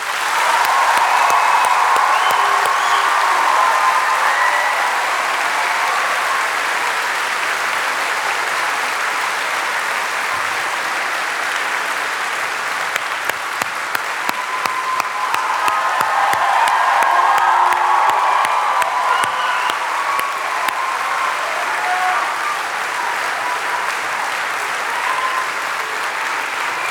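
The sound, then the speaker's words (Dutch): A large crowd in a hall applauds for Jesus steadily and loudly for nearly half a minute, with cheers and whoops rising over the dense clapping, swelling again midway before gradually easing. “Als jij ook van Jezus houdt, geef hem dan het meest waanzinnige applaus wat hij ooit gehad heeft.”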